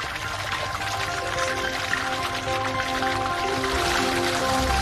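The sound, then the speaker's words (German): Excess water pours and splashes steadily off soybeans that have soaked up water and gone soft, draining away in a factory as a continuous trickling rush with a faint hum underneath and no talking. “Das überschüssige Wasser wird wieder abgelassen.”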